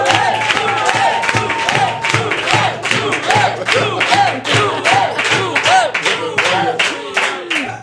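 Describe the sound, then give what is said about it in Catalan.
A crowd in a basement venue applauds loudly and steadily while voices cheer and chant "Joel!" together in a rhythmic, repeated call, welcoming Joel Joan; the clapping is dense and sustained for the full length. “Rebeu un fort aplaudiment a Joel Joan!”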